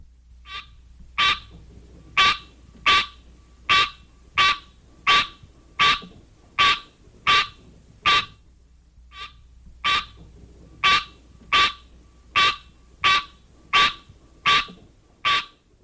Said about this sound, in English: the green tree frog, Hyla Scenaria, has this call.